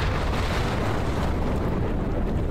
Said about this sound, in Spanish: Sabés que hubo una explosión, ¿no? Sí, no sé si se dieron cuenta que sí, que hubo una explosión. Al lado.